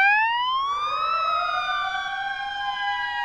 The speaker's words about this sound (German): Augenblicklich war die Hölle los. Ohrenbetäubend begann eine Sirene zu heulen, außen am Gebäude blinkten rot-gelbe Warnblinkleuchten auf und erhellten die tiefschwarze Nacht.